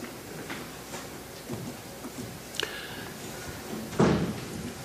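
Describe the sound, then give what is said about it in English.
The front door of a church is pushed shut after a service with a single solid thud near the end, preceded by a faint latch-like click, against a low background murmur. “can you shut the front door?”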